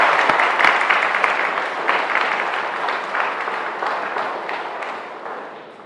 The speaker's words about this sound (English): Well, so let's have a warm round of applause for these Kennedy students.